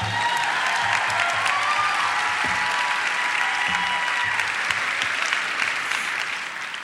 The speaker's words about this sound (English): You've ever noticed there's all this hooping and hollering and clapping, and then I come out quiet, totally quiet.